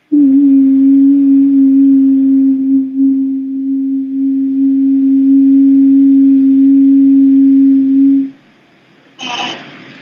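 A steady, low-pitched pure sine wave tone hums loudly and evenly for about eight seconds, then cuts off, followed by a brief burst of noise.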